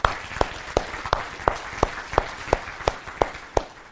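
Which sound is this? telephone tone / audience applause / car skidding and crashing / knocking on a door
audience applause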